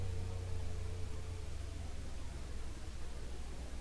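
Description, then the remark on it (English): A vibrator hums quietly at a low, steady pitch, continuous throughout and partly buried under a soft background hiss, with no one speaking. “He's fairly quiet. I don't know if you can hear his humming.”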